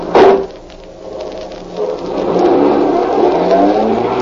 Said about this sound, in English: Get this car moving.